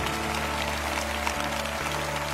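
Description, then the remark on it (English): A large standing crowd at Lakewood claps steadily in a dense, continuous patter, with sustained low musical tones from an organ or keyboard held underneath throughout. “One more clap, Lakewood, they're still standing.”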